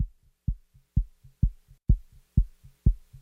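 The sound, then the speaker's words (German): A steady heartbeat calming down before heart surgery, each thump a low, muffled lub followed by a softer dub, repeating at an even, slow, regular pace with no voices. “Ich warte und über den Zugang kommt etwas, das spüre ich an der Kühle in meiner Ader und mein Herz hört auf zu rumpeln. Es beruhigt sich, schlägt langsam und gesittet.”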